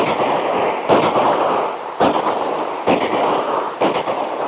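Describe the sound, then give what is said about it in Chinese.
Four sharp pistol shots from a handgun crack out at uneven intervals over a steady roar of heavy rain, shattering five glass bottles on a special-vehicle obstacle course. Each is a loud, abrupt bang that decays quickly, with no voices. “对面的五个酒瓶子全部炸开了，他手持着手枪，保持着射击的姿势，急促地呼吸着。”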